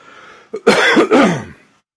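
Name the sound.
cough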